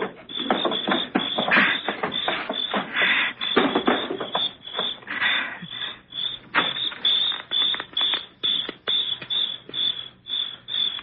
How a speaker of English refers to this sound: Now help me with this table in front of the door. I don't want to slide it.